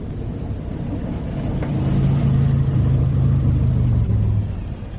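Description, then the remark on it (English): A car engine turns over and catches, then settles into a steady, droning hum as the vehicle pulls away, growing slightly louder over a low background rumble. “We can't drive it like this. We'll have to. The wretched thing will start.”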